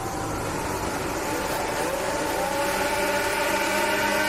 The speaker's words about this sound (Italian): La bandiera verde che arriva lì dietro. Si scalda il turbo adesso, la procedura che inizia in attesa dei semafori.